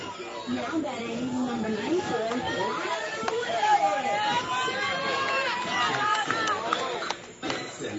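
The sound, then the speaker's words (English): A crowd at a softball game involving Washington County keeps up a steady, loud roar of overlapping voices, cheers and chatter blending together for several seconds, dipping briefly near the end. “And not only has the crowd turned up the volume”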